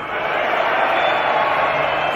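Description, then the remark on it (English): A concert crowd lets out death metal screams together, a sustained, harsh, guttural, dense, steady roar of many voices that holds loud for the full two seconds. “Where are your death metal screams?”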